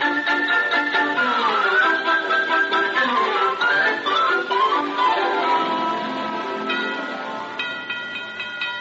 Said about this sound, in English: Guess who, Toddy? Well, the only one who makes our doorbell sound like a four-alarm fire is Mr. Wellman. Ring it hard is his rule of thumb.